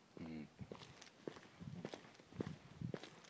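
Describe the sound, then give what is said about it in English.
Footsteps walk along a street at 4 o'clock in the morning at a steady, even pace, each step a crisp tap. A short burst of voice is heard at the start. “I'm just walking through the street to the box, sending things.”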